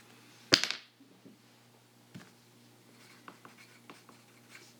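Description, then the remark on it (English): A pencil scratches across paper: one sharp tap at the start, then a run of short, dry, intermittent strokes at a soft, steady level, with no voices. “Sounds like we're taking a test with my pencil ruling.”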